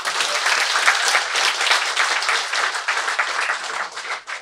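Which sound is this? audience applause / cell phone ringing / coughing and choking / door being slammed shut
audience applause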